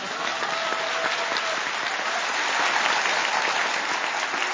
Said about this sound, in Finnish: Kiitos mun äidin, joka on itse asiassa täällä paikalla. Ja mä haluan ne aplodit käyttää siihen. Annetaan nopeasti aplodit meidän äitille.